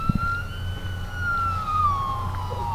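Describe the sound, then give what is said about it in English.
An elk bugles in one long, high, whistling call that holds steady and then slowly slides downward in pitch, with a steady low rumble underneath and no talking; it is one of a few dozen elk grazing in a grass field beside a road. “But along with seeing the animals, visitors want to hear them.”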